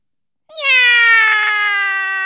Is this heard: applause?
no